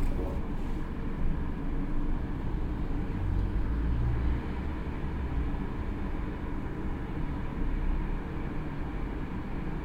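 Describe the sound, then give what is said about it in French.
A ventilation blower running in an underground car park gives a steady, deep mechanical roar, constant and loud throughout with a booming low-frequency resonance and no voices. “de temps en temps, la soufflerie se met en route avec une superbe caisse de résonance”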